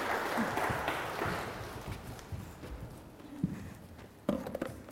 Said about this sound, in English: Lovely. Round of applause, guys.